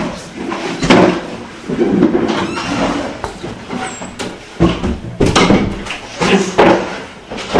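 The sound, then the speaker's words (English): Doors being closed one after another, a few heavy thuds and bangs spaced irregularly over a steady rumble of room noise and shuffling, fairly loud. “Could we just close the doors, if you don't mind?”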